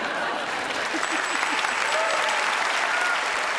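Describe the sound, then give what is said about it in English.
A crowd applauds steadily after a stand-up comedy set in Vancouver, dense clapping at an even, fairly loud level for several seconds, with faint voices and a few whoops mixed into the clatter. “arguing that Vancouver is a no-fun city and getting some nice response from the crowd.”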